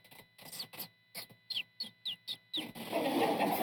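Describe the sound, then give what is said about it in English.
Small birds chirp in a quick run of short, bright calls, about ten in steady rhythm, clear, before a hissy wash of noise takes over at the end. “I thought there would be rainbows and unicorns and little birds chirping in the background.”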